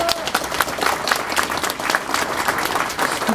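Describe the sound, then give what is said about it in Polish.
An audience applauds actor Michał Szewczyk of the Teatr Powszechny in Łódź, a dense, continuous patter of many hands clapping at moderate loudness with no pauses throughout. “Zagrał w kilkudziesięciu, brawa!”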